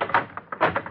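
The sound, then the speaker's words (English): The doors of cattle cars on a train being locked: a quick, irregular run of about six short clunks and knocks, moderately loud, with no voices. “Lock them.”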